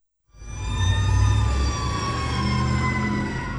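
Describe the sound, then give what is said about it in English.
Police sirens wail steadily over a loud, low rumble of street traffic in the Colonia Juarez neighborhood of Mexico City, their tones sliding and overlapping continuously for a few seconds, prominent with no voices. “Sirens ring out in Mexico City's Colonia Juarez neighborhood.”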